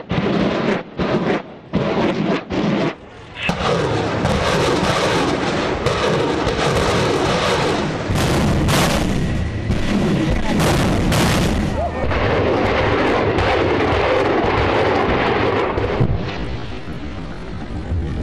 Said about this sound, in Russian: Теперь в игру вступила тактическая группа ракетных катеров, которые переходят в артиллерийскую атаку. Мощь огня обрушивается на противника, не оставляя ему шансов на спасение.